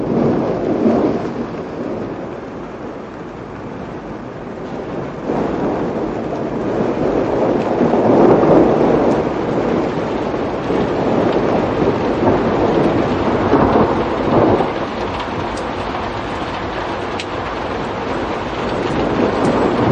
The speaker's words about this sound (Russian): Весь вечер бушевал настоящий ураган, молнии, удары, ливень ужасный. Я любовался грозой, сидя в темной библиотеке, поминутно оглушаемой громом и ослепляемой каким-то жестяным зелено-белым пламенем, до неправдоподобия